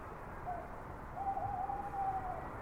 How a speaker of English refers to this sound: I like the fall, the mist and all. I like the night owl's lonely call and wailing sound of wind around.